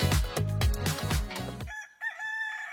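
bird, rooster crowing

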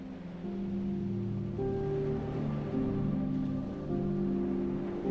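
nature, gentle ocean waves

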